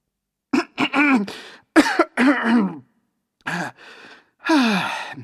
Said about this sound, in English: The professor stops speaking. His smile disappears. He coughs and wipes his eyes.